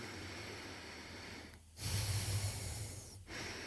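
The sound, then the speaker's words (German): Airy breathing through the left nostril with the right one pressed shut: a slow hissing inhale, a brief pause, then a stronger rushing exhale, followed by another short gap and the start of the next breath. “Vielleicht darf ich das kurz anleiten, dass man einfach jetzt mal so beginnt, dass man mal eine Nasenhälfte, die rechte, zudrückt und einmal nur durch die linke ein- und ausatmet.”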